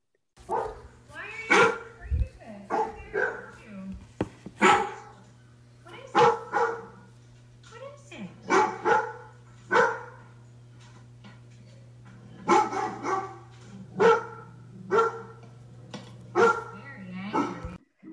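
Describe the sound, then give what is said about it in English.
A Labrador retriever lets out a long series of deep, booming barks, loud, some in quick clusters and others spaced apart, over a steady low hum. “they've got kind of a deep, big bark. We'll listen to that here in a second.”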